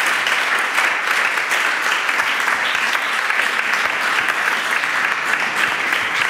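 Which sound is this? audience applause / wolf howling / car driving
audience applause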